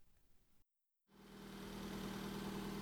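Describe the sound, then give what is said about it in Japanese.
After a brief silent gap, a bus engine rumbles in, growing louder before settling into a steady, heavy idling drone with a low hum underneath. “ほら、バス来た。”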